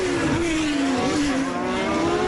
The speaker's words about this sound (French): Ce bruit de moteur de F1 pour commencer cet entretien, c'est celui qu'on va entendre à partir demain sur le circuit du Castellet dans le Var.